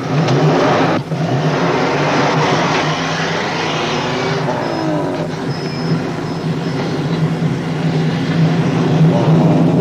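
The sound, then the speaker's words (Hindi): A truck's engine drones steadily, with low rumbling and shifting harmonic tones as it revs and drives along on its way to a delivery, filling the whole stretch without any talking. “Truck driver जी, जरा गाड़ी रोकना।”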